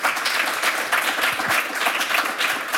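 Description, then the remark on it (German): A crowd applauds steadily, the dense patter of many clapping hands at a fairly loud, even level for the whole stretch, with no voices standing out. “einen großen Applaus.”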